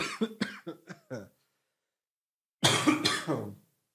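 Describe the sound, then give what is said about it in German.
A heavy, hacking cough: a quick run of five or six short coughs, a brief silence, then a louder, harsher burst of coughing. “Siehst du mal, was ich immer noch für einen schweren Husten habe?”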